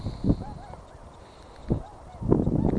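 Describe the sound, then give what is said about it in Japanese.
Several honking calls from a flock of eight swans flying in, with a few brief loud bursts standing out over a steady outdoor background hiss. “私の右手にいた集団8羽が今飛んできましたね。”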